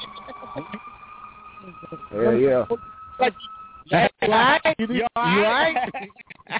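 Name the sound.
fire truck siren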